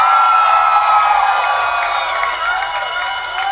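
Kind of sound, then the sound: crowd, audience cheering and whooping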